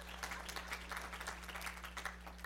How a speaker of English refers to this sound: Thank you so much. Will you clap for yourself, please? Yeah.